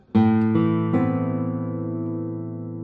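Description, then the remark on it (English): Three notes are plucked in quick succession on a Spanish-sounding guitar, building a full chord with deep bass and bright treble tones. They then ring on together in a long, slowly fading sustain on both trebles and basses, with no talking. “But I love the sound character of this guitar the most.”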